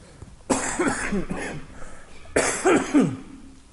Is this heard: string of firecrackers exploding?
no